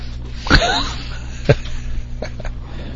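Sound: dog panting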